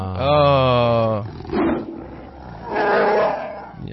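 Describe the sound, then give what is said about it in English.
A voice imitates Chewbacca's Wookiee roar in response to a joke: a loud, sustained, warbling howl with strong tonal buzz, then two shorter, rougher growling bursts. “Yeah, Chewbacca sounds, they don't really work with jokes, eh?”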